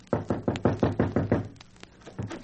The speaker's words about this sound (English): And with bursting heart, I came upon our cottage. Tears were in my eyes, and I knocked upon the door.